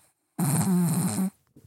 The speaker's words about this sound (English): is snoring so loud.